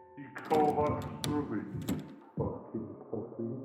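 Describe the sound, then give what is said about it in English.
The handle of a locked apartment door rattles and clacks in a few quick, sharp jolts as a voice strains and grunts underneath, then a couple of heavier thumps follow. “Doug ignored it and tried the apartment door”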